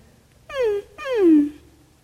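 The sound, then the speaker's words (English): A dog, Wilson, whines twice in a sanctuary, muffled, each drawn-out cry sliding downward in pitch with a short pause between them; no one speaks. “I don't think we let dogs in the sanctuary.”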